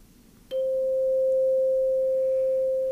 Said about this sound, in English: Chimes are long, flat instruments, much lighter in weight. Again, the choir chimes are made of aluminum, and so they're a mellower sound.